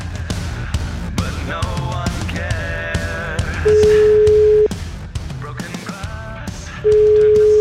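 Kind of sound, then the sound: signal or alarm, telephone ringing tone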